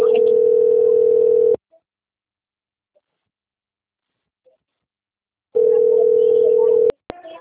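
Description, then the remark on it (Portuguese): A steady, mid-pitched telephone tone sounds twice after the phone is hung up, each burst about a second and a half long with a long silent gap between, then a sharp click and faint rustle follow. “Eu vou abaixar o telefone.”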